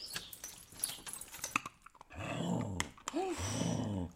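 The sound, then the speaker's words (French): A large female labrador-shepherd mix dog growls low and rumbling in two sustained bursts, after a stretch of scattered clattering and rustling noises. “J'ai un chien, je l'ai adopté il y a 2 ans.”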